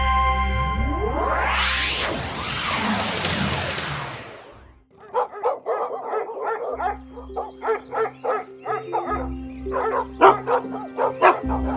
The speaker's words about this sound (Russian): А что это за лай? Это охотится костромской князь Василий Квашня. Вот и он так и горцует на лошади, а вокруг собаки.